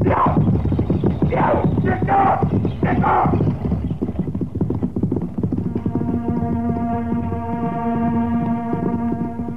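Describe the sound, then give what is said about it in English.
Horses gallop off pulling a buckboard wagon at a fast, steady clatter of hooves, loud, with a rumbling wagon rattle underneath; a sustained droning tone rises over the hoofbeats toward the end. “Now, what's the idea of making them horses run away?”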